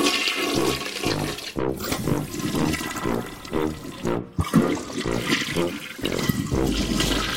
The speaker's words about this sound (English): With Kohler's powerful high-efficiency toilets, flush and done.